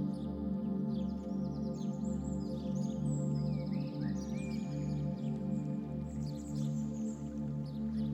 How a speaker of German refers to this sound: Und hör, nicht weit entfernt fließt ein Bach. Begib dich in aller Ruhe dorthin. Es ist ein kleiner Fluss mit Thermalwasser